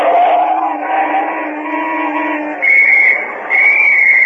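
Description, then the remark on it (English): A traffic officer on Elm Street blows a whistle at a woman driver in heavy morning traffic: two shrill, loud, sharp, sustained blasts, following a steady mix of lower tones and background noise, with no one speaking. “Were you whistling at me, officer?”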